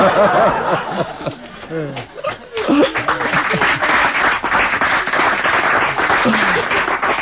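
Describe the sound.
An audience at a comedy program breaks into sustained applause, a dense steady clatter of many hands that swells after a burst of voices and laughter and keeps going loudly to the end.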